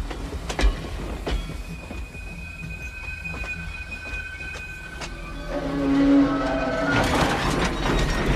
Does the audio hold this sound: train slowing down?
yes